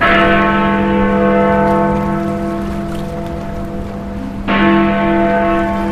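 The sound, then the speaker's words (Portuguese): Big Ben tolls loudly, striking twelve at midnight on 31 December 2020, its deep resonant strike ringing out and decaying before a second strike lands near the end, with a steady hiss like rain or crowd noise beneath. “Quando o Big Ben soou as 12 badaladas no dia 31 de dezembro de 2020, após 5 anos do referendo do Brexit e de longas negociações, o divórcio entre o Reino Unido e a União Europeia finalmente saiu do papel.”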